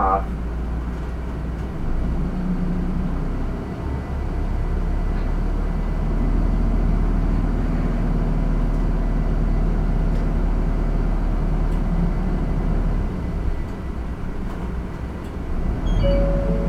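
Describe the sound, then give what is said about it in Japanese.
A route 31 bus in Japan, on the Kashihara Jingu Station west exit line bound for Kintetsu Goten Station, pulls away and drives on, its engine a steady low rumble with rising and falling drone, continuous throughout, with faint rattles and clicks in the cabin. “動きます。ご注意ください。”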